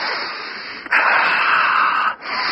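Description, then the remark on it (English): A heavy, raspy wheezing breath, one long drawn-out exhale lasting about a second, rising out of a steady background hiss with no talking. “You mean I should stop breathing?”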